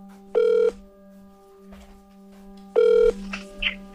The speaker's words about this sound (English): The Russian president picks up the phone himself and calls the U.S. State Department.